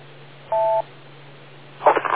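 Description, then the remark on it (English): A single steady electronic beep, a dual-tone telephone keypad tone lasting about a third of a second, over a low constant hum on a phone line. A voice starts right at the end. “I'll wait for the beeps.”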